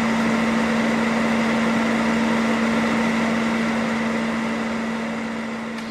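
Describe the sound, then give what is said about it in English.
A vacuum cleaner runs steadily with a loud, constant whooshing roar and a low motor hum underneath, tapering off slightly at the very end. No one speaks. “Here's the vacuum.”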